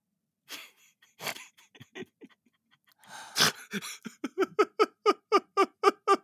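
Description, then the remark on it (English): A few soft breathy sounds, then a sudden sharp gasp of realization on getting a joke, followed by a steady run of quick, rhythmic panting exhales like breathless giggling, fairly loud, with no talking. “Did you hear that little gasp, folks, as I as I got it?”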